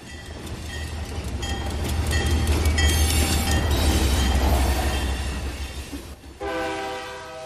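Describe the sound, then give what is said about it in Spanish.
A train rumbles past, its heavy clattering roar swelling and then easing off, before a loud, steady horn blast sounds near the end. No one speaks. “El progreso y la modernidad hizo de Matías Romero la ciudad del ferrocarril.”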